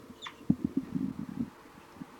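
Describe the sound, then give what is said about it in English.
A single quick, high bird call that sweeps downward, heard faintly near the start, followed by a series of soft, low thumping pulses with no talking. “It's 4-3 giving a flight call.”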